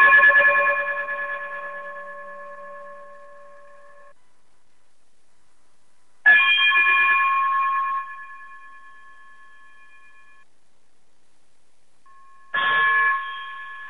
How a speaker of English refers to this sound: if you would be so kind, brother, to chime us out, greatly appreciate it.